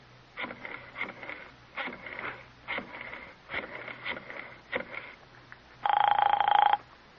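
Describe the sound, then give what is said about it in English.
A telephone rings in a series of short, buzzy bursts as a call is placed and waits for an answer, followed by one louder, steadier ring near the end, with no voices heard. “Doesn't he answer?”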